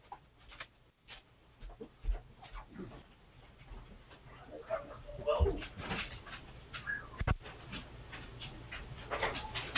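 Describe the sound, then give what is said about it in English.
A dog whines and whimpers in short, high-pitched bursts, fairly quiet, wanting to be let outside, with soft background rustling and a few faint thumps. “My dog is whining.”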